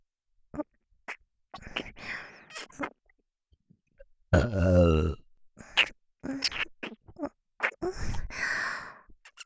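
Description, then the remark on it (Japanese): A single loud, drawn-out burp rumbles, surrounded by soft breathy vocal sounds and short murmured bursts before and after. “私の体とゲップに興奮してくださり、ありがとうございます。”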